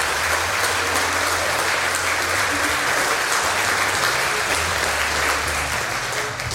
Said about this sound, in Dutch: En mag ik een welkom applaus voor